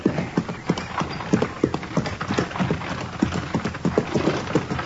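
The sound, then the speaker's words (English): Steady clip-clop of a horse's hooves pulling a buggy with two men riding, a brisk, even rhythm of sharp clops over a low rolling rumble, with no voices. “How do you like riding in a buggy, Matt?”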